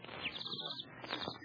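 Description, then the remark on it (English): A bird whistle tweets and warbles in quick, bright trills, rising and falling in pitch, mimicking birdsong. It plays alone, fairly loud, with no talking over it. “Yes, with this bird whistle.”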